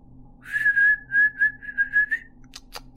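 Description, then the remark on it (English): A person whistles to call the dogs Wilmer and Aldrich, a quick run of short, steady-pitched notes, fairly loud, lasting about two seconds, followed by a few faint clicks. “He called the dogs' names and whistled out.”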